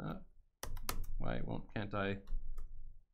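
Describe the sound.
Quick bursts of sharp computer-keyboard clicks as a component name is typed on an app's index page, a cluster of keystrokes followed by a few scattered taps, with a person speaking over the middle stretch.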